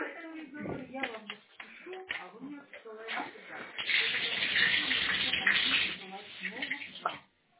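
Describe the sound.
Water runs from a tap in a steady hiss for a couple of seconds, turned on to see which water meter is turning, with people talking over it before and after, all heard through a narrow, phone-like line.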